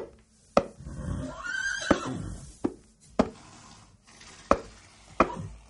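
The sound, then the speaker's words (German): A horse whinnies once, a rising then falling cry, while sharp, loud knocks strike at irregular intervals before and after it; no one speaks. “wie beim klugen Hans, einem Pferd, das vor dem Ersten Weltkrieg auf vielen Jahrmärkten auftrat”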